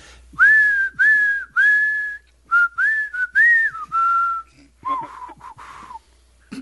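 A person whistles the melody of a rock song as a name-the-song game starts, a series of clear sustained tones and short bursts with brief pauses between phrases, with no talking.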